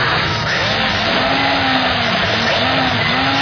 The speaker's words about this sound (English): Yeah, that machine is drilling right through any kind of obstacle. if it is concrete or...